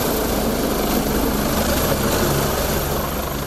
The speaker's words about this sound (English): That helicopter landed at the Canadian Embassy Thursday. Global Affairs Canada says it was just one of 9 flights that day, taking 50 Canadians to the Dominican Republic.